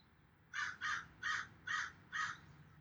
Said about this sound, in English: Listening to the birds, listening to all the sounds of nature around you.